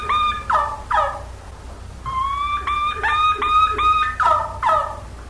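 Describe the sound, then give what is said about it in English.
A wild turkey's kee-kee run: high, thin whistled notes in quick clusters, breaking into short raspy yelps, repeated several times with no talking over it. “Let me tell you, that now, here's the key run.”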